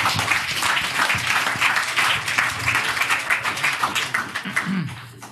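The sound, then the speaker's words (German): Sustained applause from a group fills the whole stretch, dense overlapping claps at steady loudness, thinning slightly near the end, with no one speaking over it. “Ja, Applaus.”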